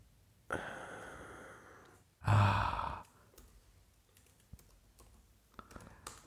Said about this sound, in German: Es ist schön, wenn keiner redet und beide nur tippen.